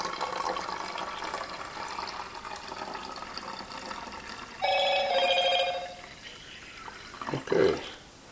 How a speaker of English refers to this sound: Just my phone. I got a message.